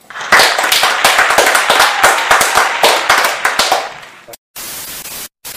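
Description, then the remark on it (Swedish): A burst of audience applause for the winner of a competition final, dense clapping at steady loudness for about four seconds before fading, followed by a short stretch of hiss-like noise with brief gaps. “En applåd.”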